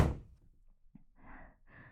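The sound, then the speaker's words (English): A door slams shut with one heavy thud right at the start, its boom fading quickly, with faint rustling afterward. “Get out and close the fucking door.”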